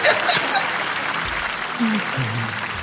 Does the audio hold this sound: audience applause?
yes